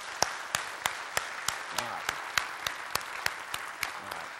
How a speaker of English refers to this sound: So I'm going to say, if we're happy and you know it, let's just do an applause here today, okay? If you're happy and you know it, clap your hands.